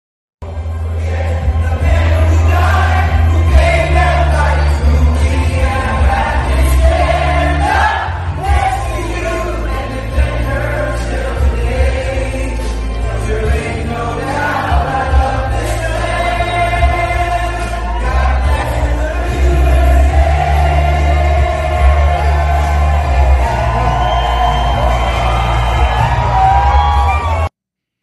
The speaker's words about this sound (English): That was a wonderful crowd, again, visiting in Georgia. You could see and hear the excitement from everyone in that building, folks, as you're watching this.